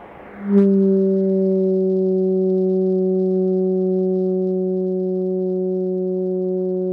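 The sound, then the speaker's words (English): A steady, low humming tone with strong harmonics starts abruptly and holds for several seconds, like a foghorn, from a thermal oscillator: a tube whose mesh was heated with a blowtorch, sounding once the torch is taken away. No one speaks. “I hear the mesh crackling now, and in a minute when I take the blowtorch away, we'll hear the sound of the oscillator. It's a low tone, somewhat like a foghorn.”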